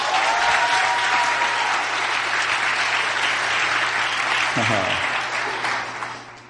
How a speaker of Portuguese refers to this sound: So why don't we give them a great hand as well? Então por que a gente não dá uma salva de palmas para eles?